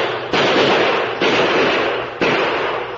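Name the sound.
gunshots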